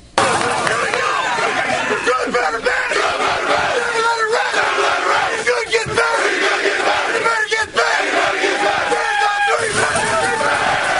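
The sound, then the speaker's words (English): A packed room of voices roars in a postgame locker-room cheer led by shirtless head coach after a Friday-night win over the Eagles, loud and unbroken for the whole stretch, with whoops and rowdy shouts piling over a dense crowd babble. “And they said that if head coach … took off his shirt in the post game and led the cheer,”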